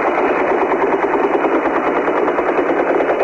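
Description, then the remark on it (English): Dense, continuous fire from Palestinian fighters shooting rifles and rockets into the air as a traditional salute while the PLO is evacuated through the port of Beirut in August 1982; many overlapping shots crackle without pause, blurring into a steady, rattling roar, with no voices heard. “The shooting you hear are Palestinians firing rifles and rockets into the air as the PLO is evacuated here through the port of Beirut.”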